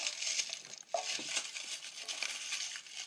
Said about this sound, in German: Ja, ihr hört jetzt gerade nur das Knistern von der Schokolade. Also vom Schokoladenpapier.